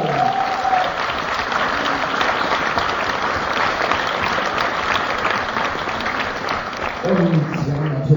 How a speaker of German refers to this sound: Nochmal ganz kräftig klatschen